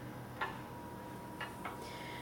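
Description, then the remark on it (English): A few soft, crisp ticks from a clock that also plays chime sound effects, set to Westminster Chimes, unevenly spaced over a couple of seconds against a quiet room hum, with no voices. “I personally find the sound of a ticking clock very soothing and relaxing.”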